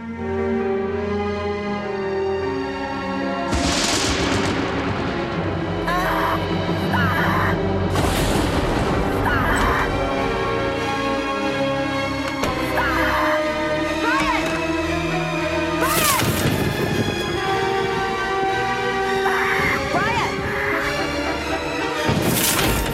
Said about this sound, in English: Outside, the lightning flashes as a storm moves in.